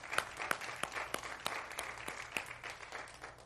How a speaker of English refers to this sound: And there was a round of applause this morning.